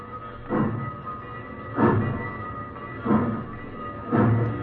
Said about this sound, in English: The boy got on board. The train rolled across the fields and plains and sang out at night on its way to Mexico.